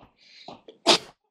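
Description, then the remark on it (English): A single loud sneeze: a short breathy intake, then a sharp explosive burst that quickly fades. No talking. “Bless you.”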